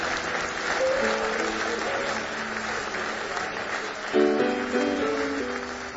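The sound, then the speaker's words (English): A Happy Valley church audience claps steadily in praise during a morning service, a dense, sustained wash of applause, while brief sustained keyboard chords sound over it, swelling louder near the end. “Give me one more hand clap of praise this morning.”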